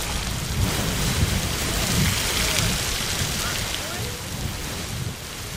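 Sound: geyser erupting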